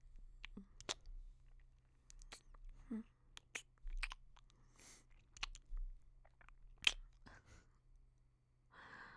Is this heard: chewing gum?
yes